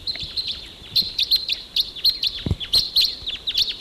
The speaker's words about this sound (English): Okay, those crossbills, there were about four of them, took off and they went up higher on the ridge.